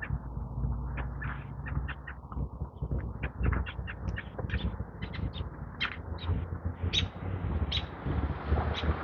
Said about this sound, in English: Chirping going on here this morning.